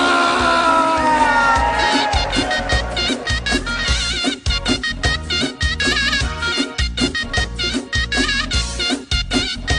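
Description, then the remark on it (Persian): A group of young students shouts "hooray" and cheers loudly together, with energetic rhythmic clapping or beating continuing steadily through the excited, noisy crowd. “چشم دانش آموزا عزیز، بخاری الان درست میشه، همه گرم دور میشه. بگید هورا.”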